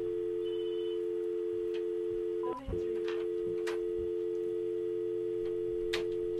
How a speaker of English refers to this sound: No, I can't hear anything. All I hear is the dial tone.